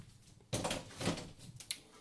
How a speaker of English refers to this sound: Back door. Shut, locked.